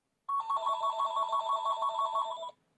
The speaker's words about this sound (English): whoops, my phone is ringing.